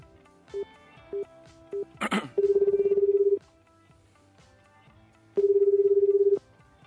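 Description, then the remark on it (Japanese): Three short dial tones beep in sequence, followed by a brief burst of noise and two long, steady ringback tones separated by a pause, as a phone call is placed to Omori of All Japan Pro Wrestling and rings out. “それでは、本日一組目のゲストですね、日本プロレスの、全日本プロレスですね、大森さんと電話の方をつないでいきたいと思います。”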